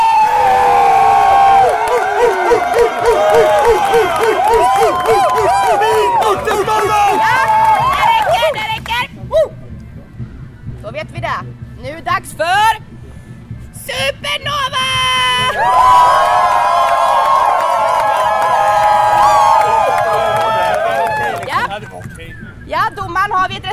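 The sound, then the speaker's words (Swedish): A crowd at a rap battle in Visby cheers loudly for a beatbox contestant, with high shrieks and whoops rising over a dense roar. It briefly quiets around the middle, then a second wave of cheering swells just as strongly. “Alltså jag hörde lite mer jubel för beatboxmannen här borta och lite mer jubel för supernovan här borta.”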